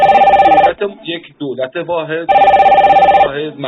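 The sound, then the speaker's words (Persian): A telephone rings loudly in two rapid trilling bursts, with a person speaking in the gap between the rings and briefly over the end of the second. “لطفاً شنوندگان تلفن نزنن چون ما پشت خط کسی گرد داریم.”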